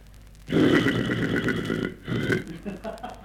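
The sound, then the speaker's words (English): A man imitates a horse whinnying: a loud, rough, buzzy vocal burst that wavers for over a second, then a second shorter neigh that fades off. “would you like to stand back from the microphone and give us a horse whinnying noise?”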